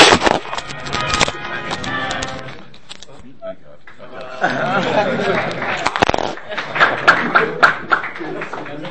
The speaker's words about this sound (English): Save the applause for after the show.